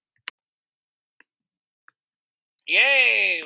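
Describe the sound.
Four sharp, isolated keyboard clacks land at slow, uneven intervals over a quiet background, then a loud, high-pitched voice cuts in and drowns out the typing.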